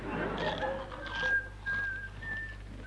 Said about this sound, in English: I want you to eat these cream crackers and whistle the national anthem. Does that help? No, but it's a damn good laugh.